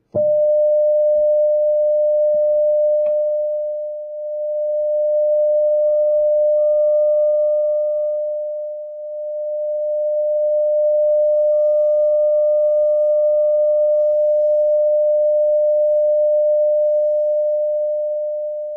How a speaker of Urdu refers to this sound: جب یہ فاصلہ بڑھ جاتا ہے یا گھٹ جاتا ہے تو ایسے بھی ہو سکتا ہے کہ یہ ویوز ایک دوسرے کو کینسل کریں, گویا کہ وہاں پر ڈسٹرکٹیو انٹرفیئرنس ہو. اب ہم اس کو دیکھنا چاہیں گے. اس مائکروفون سے آواز ان دونوں کی اٹھائی جائے گی.